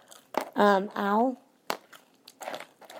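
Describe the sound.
Someone crunches on crispy fries, with sharp crackly bites at a steady uneven pace, broken by a couple of drawn-out voiced hums or vowel sounds early on.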